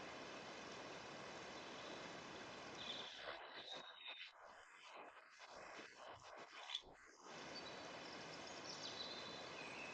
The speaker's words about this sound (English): The sound of gently flowing water.